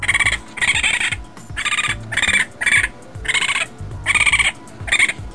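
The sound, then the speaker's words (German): Baby raccoons chirp in a rapid series of about nine short, bright, bird-like calls, fairly loud, with brief gaps between them and no talking. “Die Jungtiere machen ganz viele verschiedene Laute. Und manche davon klingen fast wie Vogelgezwitscher.”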